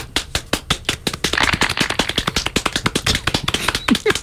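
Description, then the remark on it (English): Brisk, sharp hand clapping in a fast, steady patter that holds fairly loud for about four seconds, with a brief vocal squeak near the end. “Please clap.”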